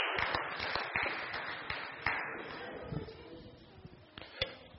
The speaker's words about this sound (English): How about a clap offering?